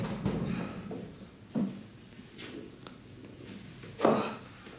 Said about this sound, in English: A cell door is opened, and as Gently walks in, China sits up.